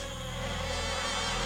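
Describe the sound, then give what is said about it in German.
An Anopheles mosquito's thin, steady whine drones continuously, a sustained high-pitched buzz with a faint fluttering quality and no voices. “Wie die Anopheles-Mücke.”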